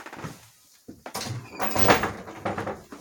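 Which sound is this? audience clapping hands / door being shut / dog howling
door being shut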